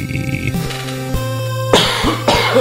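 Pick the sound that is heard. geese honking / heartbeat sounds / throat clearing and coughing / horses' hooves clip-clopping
throat clearing and coughing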